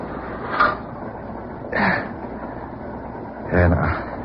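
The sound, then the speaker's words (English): Inside a moving freight train boxcar: a steady rattling rumble runs throughout, broken by three louder, brief clanking surges spaced a second or two apart. “Boxcar, an open door. And made it just in time.”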